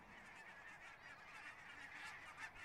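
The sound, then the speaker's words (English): A flock of geese honking continuously, many overlapping calls forming a dense, steady chorus, with no talking. “Well, wind is blowing, and so the geese are honking.”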